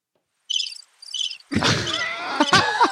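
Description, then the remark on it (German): A bird-chirp sound effect played from a sound bank: two short, high twittering bursts of bird chirping, then a louder, denser wash of chirps and rustling with a couple of soft thuds, fairly loud, no voices. “Du hast den Vogel zwitschern.”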